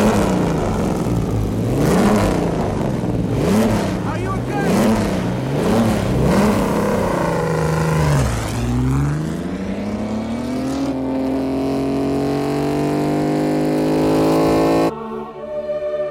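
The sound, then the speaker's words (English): Car engines rev hard in repeated surges, pitch rising and falling in a rhythmic pattern, then one long climbing rev that holds loud before cutting off sharply. A voice briefly speaks over it. “And there's a weight that is basically felt for me as an audience member of hearing but feeling the cars.”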